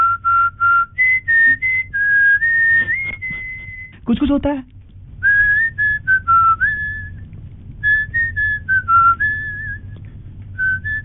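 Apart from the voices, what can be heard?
whistled tune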